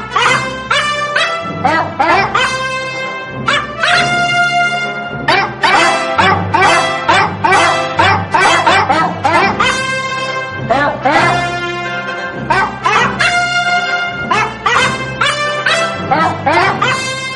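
A dog barks and yips over and over in quick, loud bursts, with short whimpering, high-pitched cries mixed in, filling the whole stretch with little pause.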